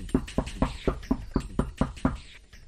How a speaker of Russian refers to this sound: пока, наконец, не оказался перед металлической дверью, утыканной заклепками. От усталости на лбу у него выступили крупные капли пота. В глотке пересохло, он поднял руку и тихо постучал.